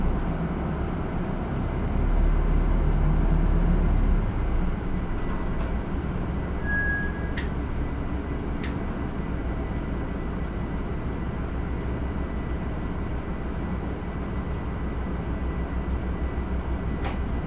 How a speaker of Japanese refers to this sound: バス動きます。